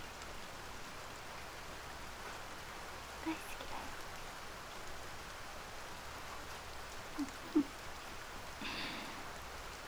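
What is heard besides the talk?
rain falling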